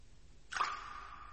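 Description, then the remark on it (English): A single faint, distant splash after near silence, followed by a hollow ringing echo that fades slowly, as if something dropped far down a deep shaft. “That sounded just like a splash.”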